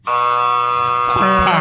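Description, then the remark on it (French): A loud hockey arena buzzer of the Saint-Jean Chiefs blares in one long, steady, harsh drone, starting abruptly and holding for well over a second, with some faint crowd or background noise joining near the end. “Le buzzer a buzzé. C'est un buzzer d'aréna.”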